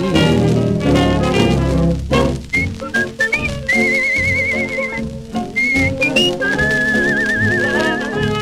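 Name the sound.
human whistling a tune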